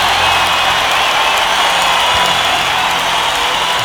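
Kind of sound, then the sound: crowd, crowd cheering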